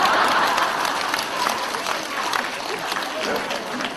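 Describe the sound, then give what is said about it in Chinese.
A crowd bursts into sustained applause, many hands clapping in a dense, steady wash that stays loud for the full four seconds, with faint murmuring beneath it. “刚刚还说你们很开悟的，鼓掌都不知道”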